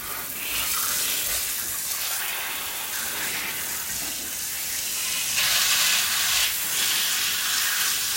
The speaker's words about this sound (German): Hört ihr das? Es muss ein Wasserfall sein. Sie eilt vorwärts und entdeckt einen mächtigen Fluss, der über die Felsen hinabstürzt.